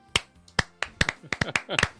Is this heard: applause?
yes